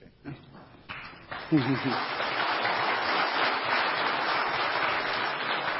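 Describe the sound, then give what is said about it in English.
The audience of the Kalkaska Church of Christ breaks into applause after a prayer: many hands clapping in a dense, steady wash that builds quickly and holds at an even level, with a brief voice heard just before it starts. “so you're doing a very good job clapping ahead of time.”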